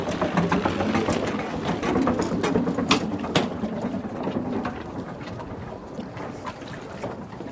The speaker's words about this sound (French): C'est le bateau avec lequel je partirai dans quelques semaines sur le Vendée Globe.